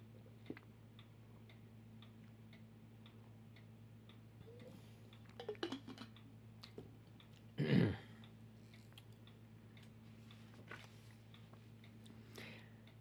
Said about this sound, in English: This is me getting a drink of water.